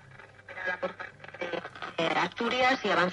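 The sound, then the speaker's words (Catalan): A nearly 100-year-old French Hermès valve radio from Annecy warming up: a muffled, tinny broadcast voice in Spanish over a low steady hum, swelling noticeably louder partway through as the set comes to life. “Molt diferent, perquè, clar, estem parlant d'una ràdio ja de quasi bé 100 anys.”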